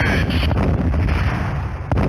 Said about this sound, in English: Listen to some of this audio. Hold on. It's a lot of explosions.